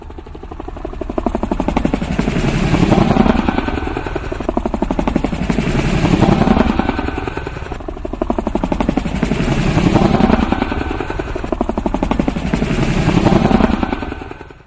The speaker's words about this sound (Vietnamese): Đàn trực thăng nặng nề sà qua những vườn quả đó, nơi màu xanh mương mướt của cây lá tiếp giáp với màu xanh sẫm của biển chiều. Những con quái vật này rít rống rền rĩ bay qua trên đầu những trái măng cụt nâu rám, trái vú sữa tím ửng